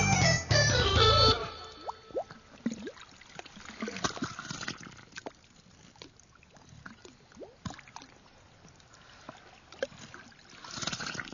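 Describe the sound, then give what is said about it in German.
Sea water in Sydney Harbour sloshes and laps gently against a hull or hard surface, with irregular small splashes and drips over a soft watery background, after a brief louder rush at the start; from a radio composition by an artist. “Das Meer im Hafen von Sydney in einer Radiokomposition von …, heute im Kunstradio,”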